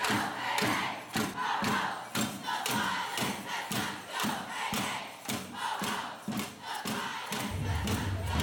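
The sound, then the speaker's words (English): A large crowd at the Women's March in Toronto, Canada, chants together in a steady, rhythmic cadence, loud, with many voices blending into a continuous roar punctuated by regular shouted beats. “And now here are some of her conversations with people in the crowd.”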